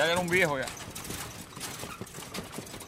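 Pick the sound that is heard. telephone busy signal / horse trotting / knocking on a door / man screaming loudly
horse trotting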